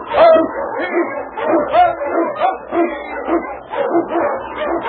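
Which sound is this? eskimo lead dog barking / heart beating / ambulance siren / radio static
eskimo lead dog barking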